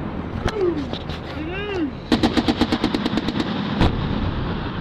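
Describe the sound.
Gunfire from amateur combat footage of fighting in Afghanistan, found among videos on YouTube and LiveLeak: a lone sharp shot, then a rapid burst of about a dozen evenly spaced cracks and one more loud shot, with voices calling out underneath.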